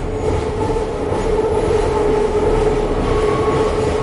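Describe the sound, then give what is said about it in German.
A U6 subway train running, carrying a school class to the Neue Donau: a steady, loud rumble of wheels and motors with a sustained mid-pitched whine over it, continuous for the whole stretch with no voices. “Am nächsten Tag fährt die Klasse mit der U6 zur neuen Donau.”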